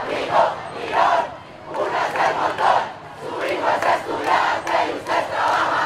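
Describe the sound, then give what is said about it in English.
A large crowd of university students chants slogans in unison in the streets of Bogota, Colombia, urging political leaders to salvage the peace accord, voices rising and falling in repeated rhythmic bursts roughly every second or so, loud and continuous throughout. “On Wednesday, university students poured into the streets of Bogota. They chanted slogans, urging their political leaders to salvage the peace accord.”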